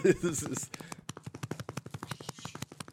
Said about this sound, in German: Wir starten mit dem Mann, der gerade den Hintern seiner Katze tätschelt. Sehr massiv. Er trommelt ihn wie eine Bongo.